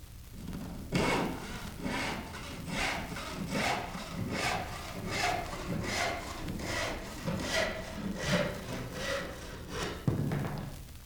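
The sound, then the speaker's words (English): A crosscut hand saw rasps steadily through a pine plank, its teeth digging into the wood in regular back-and-forth strokes, about ten in a row, fairly loud, ending with a light knock as the cut finishes. “Take, for example, the homely, rasping noise of a crosscut saw as its teeth dig into a pine plank.”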